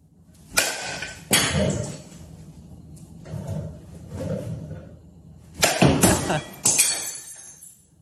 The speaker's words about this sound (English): Next, the broken glass batting practice. This is fun. This is good American stuff in your garage with dad.